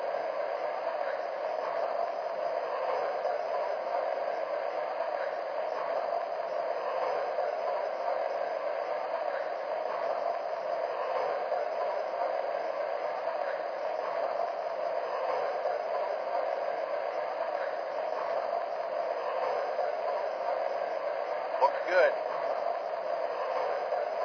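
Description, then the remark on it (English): A passenger train, train number 26, the 20th Century Limited, idles at a station on track one before departing for New York, giving off a steady, unbroken rumbling hiss for the whole stretch, while a voice speaks briefly over it. “Now departing for New York on track one, train number 26, the 20th Century Limited.”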